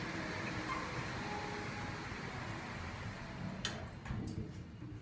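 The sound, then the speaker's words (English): Otis elevator doors slide smoothly shut over a steady mechanical hum, ending in a couple of soft clunks near the end, with no talking. “Smooth closing of doors. And the elevator is now moving by itself.”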